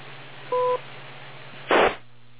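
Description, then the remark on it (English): A single short two-tone beep on a ham radio transmission sounds over steady band-limited hiss, followed a second later by a brief loud burst of static. No one speaks. “Wait for the beep, and watch you watch.”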